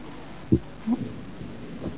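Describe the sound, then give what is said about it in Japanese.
Thunder rumbles low, a few dull thuds rolling through a steady background hiss, with no voices. “わあ、すごい雷。”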